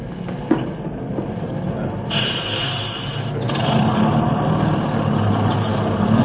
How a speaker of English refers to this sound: Just at that moment, a bus came to a stop, and I got on.